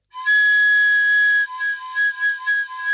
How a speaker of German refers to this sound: Ein komisches Pfeifen drang durch die Luft, das war so eine Art Hydraulik oder so